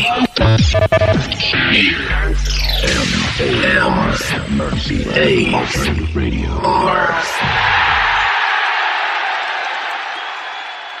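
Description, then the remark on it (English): A jingle: a loud, chaotic burst of many voices shouting, whooping and bellowing together, with cheers rising over each other before fading into a hissing wash of crowd noise. “Whoopee! And everybody's shouts and bawls and is happy as normal.”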